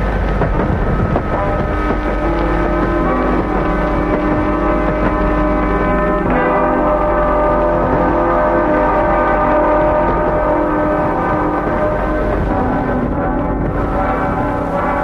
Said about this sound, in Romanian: De mai bine de 5 ore trenul gonește cu o viteză nebună spre sud.